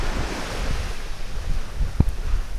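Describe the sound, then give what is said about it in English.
Steady surf washes in on a white sand beach under a constant rush of wind buffeting the microphone, with a brief low thump near the end; no voices, just an open, blustery shoreline. “I'm back out on the white sand beach, and off in the distance to the north, I see the towering hotels of Ocean City.”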